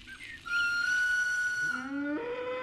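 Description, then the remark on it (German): A train horn blows a long, steady, harmonically rich tone for over a second, then shifts into a lower, wavering two-note blare as it continues, loud and without any talking, as a train full of schoolchildren leaves the station. “Hört ihr? Das Zughorn. Der Zug fährt aus dem Bahnhof.”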